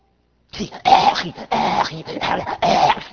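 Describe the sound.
A voice imitates a dog choking against its leash: four loud, raspy bursts of strained gagging and wheezing in quick succession after a brief silence.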